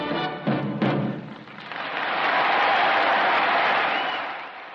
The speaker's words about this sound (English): and the explosion of applause made it clear that the night was theirs.